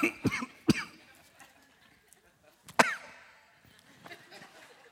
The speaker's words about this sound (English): People cough when there's public speaking going on, especially in a church, and it's the same as heckling. Now go ahead. I know you got to clear your throat and cough right now.